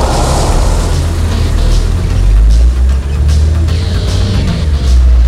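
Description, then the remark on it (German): A car engine roars loudly and steadily, a deep rumbling drone with a slight rise in revs as the car drives off at once from a parking lot. No voices. “Peter fuhr sofort los.”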